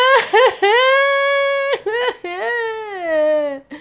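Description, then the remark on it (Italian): A human voice imitates a tree crying with loud, drawn-out wailing sobs: a few short whimpering catches, then long quavering cries that rise and sag in pitch, alone without any words. “Ma più alzava la voce, più l'albero piangeva.”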